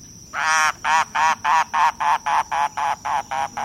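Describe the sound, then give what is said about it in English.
A mangrove cuckoo on Key West gives a steady run of about eleven harsh, nasal croaking notes, each short and evenly spaced, fairly loud with no voices present. “Listening on Key West to mangrove cuckoos and gray kingbirds, you might imagine yourself in Cuba or the Bahamas,”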